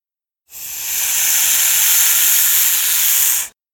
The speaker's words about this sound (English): "It's a snake!"